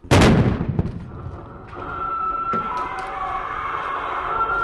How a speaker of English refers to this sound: The explosion was detonated by a SWAT team that appears from behind a neighboring house.